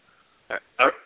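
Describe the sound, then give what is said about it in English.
Two short, sharp barks from a dog, the second louder and longer than the first, with a brief pause between them and no other sound around them. “Dog barking or something.”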